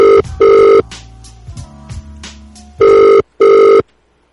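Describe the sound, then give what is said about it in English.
A telephone rings in two loud double-burst rings separated by a quiet gap, the bright electronic tone repeating with no one picking up; the call is to a pizza delivery number and goes unanswered. “Dim Reaper's number that he sent it for Domus pizza delivery, but they did not answer”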